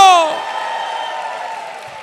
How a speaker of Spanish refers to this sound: Si tú lo crees, dale un aplauso fuerte. Vamos, dale un grito de victoria. Vamos, dale un grito de júbilo.